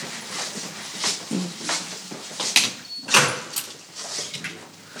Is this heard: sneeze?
no